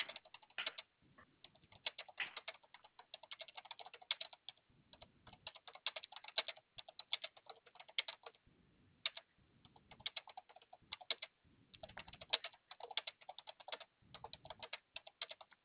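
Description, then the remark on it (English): Rapid keyboard typing clatters in irregular bursts with brief pauses between runs of keystrokes, fairly quiet, with no voices, as an agent notes a caller's account during a brief phone hold. “I can hear you typing.”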